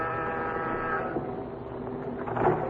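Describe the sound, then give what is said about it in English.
A door buzzer pressed at an address down in the village gives a harsh, steady electric drone with a rich, reedy tone for about a second, then cuts away, leaving a low rumbling background and a brief brighter sound near the end. “As you press the door buzzer, you wonder what Pat had found out.”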